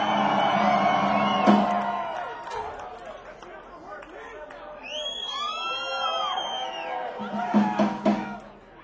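audience cheering and applauding

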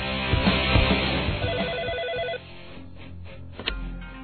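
telephone ringing

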